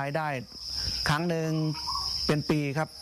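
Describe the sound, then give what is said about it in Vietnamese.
Farmed crickets, raised by a household for harvest every two months, chirp in a steady, unbroken high-pitched trill throughout, fairly prominent, while a man talks over them in short phrases. “Giờ chúng tôi có thể thu hoạch dế 2 tháng một lần, nên một năm được 6 lần.”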